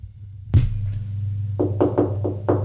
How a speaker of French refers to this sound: On frappe à la porte. Entrez.